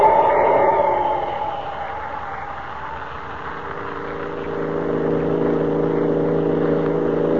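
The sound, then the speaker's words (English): A car engine drones steadily as the vehicle drives along, its pitch easing down at first and then holding an even, rumbling hum throughout with no voices. “There are the headlights of a car. Far in the distance.”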